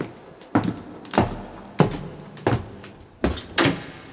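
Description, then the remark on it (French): A small door, unlocked with a key, is worked open with a series of six sharp wooden knocks and thunks at uneven intervals, each brief, with no voices present. “Ouvre cette petite porte”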